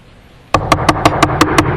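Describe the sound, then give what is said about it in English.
After a brief quiet moment, someone raps on a door about seven times in a quick, steady rhythm, the knocks sharp and loud, with no voices. “Who's that knocking?”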